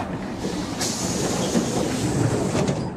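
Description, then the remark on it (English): A train rolls steadily along the rails, a loud continuous rumble with faint rhythmic clacks and brief metallic hiss, no voices. “I can see the train!”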